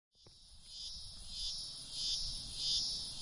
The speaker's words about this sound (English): If you live on the east coast of the U.S., you probably heard the buzz about cicadas. They're pretty loud, but they make some cool noises, which got me thinking.